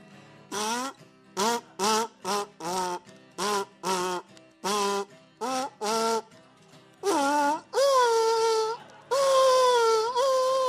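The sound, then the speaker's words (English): A buzzy kazoo plays a string of short, wavering yelps, then stretches into longer rising-and-falling howls, mimicking a dog howling. Loud and nasal, with no one talking over it. “That's supposed to sound like a dog, I'm not sure.”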